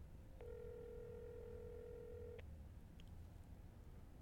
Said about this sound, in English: Yeah, let me just call it and then you'll know where it is. Yeah. Takes me like 2 seconds. All right. It's ringing right now.